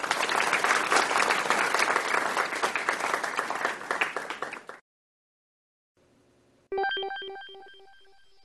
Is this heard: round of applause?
yes